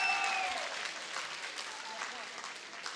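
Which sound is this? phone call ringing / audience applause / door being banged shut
audience applause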